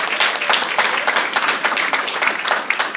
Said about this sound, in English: One more massive round of applause.